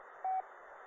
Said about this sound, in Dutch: Maar eerst P, Papa Echo 1, Delta, Golf Echo met een mooi piepje erachter.